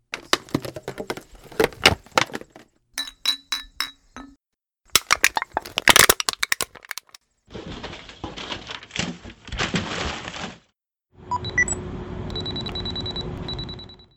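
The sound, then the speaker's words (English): A series of separate bursts from household recycling waste: crinkly plastic bottle crackles, ringing glass bottle clinks, a crunching aluminum can, then a stretch of rustling mixed paper, ending with a steady electronic hum from an electronics device. No one speaks. “Those were the sounds of plastic and glass bottles, an aluminum can, mixed paper, and an electronics device.”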